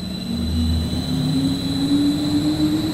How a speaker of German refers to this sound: Ein fast 2 Meter hoher Generator steht in einer Halle nahe Kassel. Ein Motor dreht ihn über eine Welle.